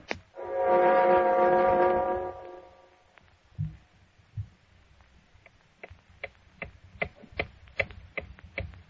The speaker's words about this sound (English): Time has a way of meting out justice, hasn't it? Listen, as the clock ticks on for John Littlefield.